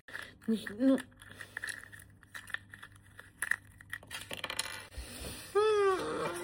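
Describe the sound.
Crinkly rustling and tearing of foil wrapper as a Kinder chocolate egg, the last of seven unicorn-series eggs, is unwrapped and opened, with small plastic clicks; a voice sounds briefly near the start and again at the end.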